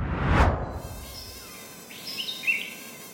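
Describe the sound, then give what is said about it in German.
A brief whooshing rush gives way to thin, high-pitched mosquito whines that drift in and out, the buzzing swelling and fading faintly, in humid, green rainforest in the Monteverde area of Bolivia. No one speaks. “Und wow, ich glaube, ich kann jetzt schon aufhören, die Mückenstiche zu zählen.”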